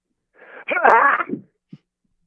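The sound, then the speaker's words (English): A person imitates a sneeze in the style of Dwayne Johnson (The Rock) with their voice: a breathy, rising buildup followed by a loud, strained burst, then a short low grunt and a brief trailing puff. “Okay, a sneeze in the style of Dwayne Johnson.”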